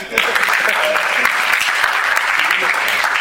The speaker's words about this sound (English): Who was he? Robin. Yes, Robin. You can applaud.